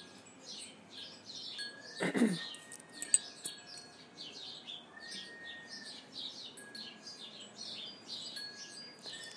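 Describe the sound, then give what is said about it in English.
Many small birds chirp and twitter continuously outdoors, a busy, overlapping chorus of quick high calls, with a brief rustling thump early on and no voices. “if you could tell me what kind of birds those are.”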